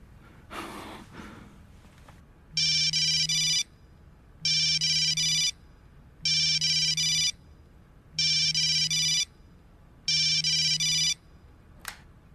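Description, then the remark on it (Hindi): A telephone rings five times in a steady, evenly spaced pattern, each ring a loud, bright electronic trill lasting about a second. A sharp breath is heard just before the ringing starts. “कहाँ हो, तुम्हें 100 दफा फोन कर चुका हूँ।”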